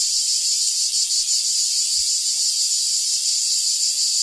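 A cicada buzzes in a steady, unbroken high-pitched drone, loud, continuing evenly throughout with no voices or other sounds.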